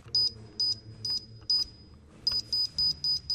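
An alarm system being disarmed gives high-pitched beeps in a steady pattern, four evenly spaced tones, a brief pause, then five quicker beeps, fairly loud over a low background hum.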